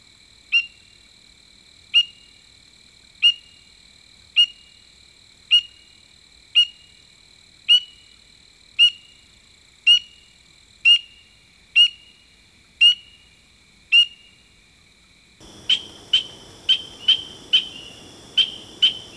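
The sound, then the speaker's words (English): Spring peeper frog autumn calls: clear high single peeps repeated about once a second, followed by a noisier stretch of quicker, harsher, dissonant squeaking calls. No one speaks. “These calls vary in quality from clear peeps, which have earned this species the alternate name of autumn piper, to dissonant squeaking notes hardly resembling the typical advertisement calls.”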